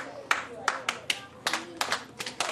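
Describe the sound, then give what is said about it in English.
A teacher claps a rhythm for a class of children to clap back, to get them back on track: about ten crisp, sharp claps in quick uneven groupings, with faint voices murmuring underneath. “When I clap, you need to clap after me.”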